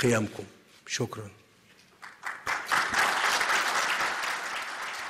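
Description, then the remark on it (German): A man's voice speaks briefly, then a burst of applause breaks out from Egyptian journalists at a summit press conference, dense rapid clapping that swells and holds steady, loud and continuous to the end. “Tja, während Beifall in deutschen Pressekonferenzen verpönt ist, scheinen ägyptische Kollegen damit kein Problem zu haben.”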